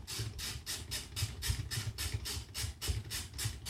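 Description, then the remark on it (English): An alarm-clock tea-making machine, set off by its alarm, boils water for tea to be brewed in a teapot: steady, rhythmic bursts of hissing, roughly three or four a second, over a low bubbling rumble, with no voices. “I can hear it boiling.”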